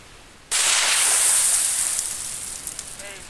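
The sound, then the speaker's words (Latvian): A sudden loud gas blast goes off in a mole burrow, set off by a special blasting device whose end is pushed into the burrow to fill it with gas, followed by a few seconds of hissing, crackling noise like scattering soil that slowly fades. There is no talking. “Iekārtas gals jāiebāž kuģu rakumos, alu piepilda ar gāzi un uzspridzina.”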